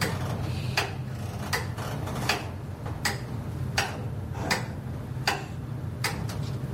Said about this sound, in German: Das ganze Getriebe wird von einer einzigen, einfachen friesischen Pendeluhr angetrieben.